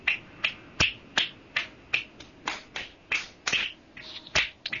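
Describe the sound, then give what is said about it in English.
A steady patter of finger snaps offered as applause, about a dozen crisp, sharp clicks in an uneven rhythm, with no voices. “So, yeah, this is applause for you”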